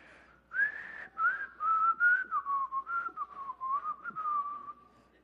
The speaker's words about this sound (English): Still drawing a blank. Let's see if I can whistle.